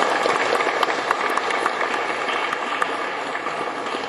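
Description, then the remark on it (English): A steady round of audience applause, dense clapping at an even, sustained level throughout with scattered sharper individual claps standing out, no voices heard. “round of applause.”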